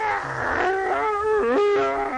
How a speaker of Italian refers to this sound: No, perché piange così lei? Ce lo dica.